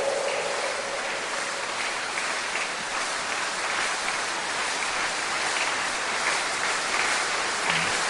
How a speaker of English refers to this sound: That's not the kind of clapping that will cause God to arise. If you are going to praise him this year, you have to do it very well.